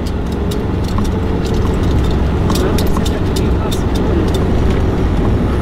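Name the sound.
truck passing on road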